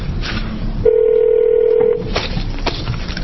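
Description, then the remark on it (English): A single steady telephone ring tone sounds for about a second, clear and fairly loud, set against faint background noise with no talking, as a call is placed to McHale Group. “Do you want me to wait till when we get that person on the phone?”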